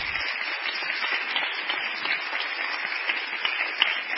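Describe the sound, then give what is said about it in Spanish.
Steady audience applause welcoming a guest lecturer at an academic event fills the whole stretch, a dense, even wash of many hands clapping at moderate loudness with no voices on top. “Les pido un fuerte aplauso para ella.”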